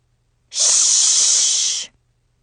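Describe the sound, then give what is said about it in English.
A girl scrunches up her nose and hisses: a single loud, airy hiss holds steady for about a second and a half, bright and high-pitched, then cuts off abruptly, with silence on either side. “She glared at me, scrunched up her nose, and hissed.”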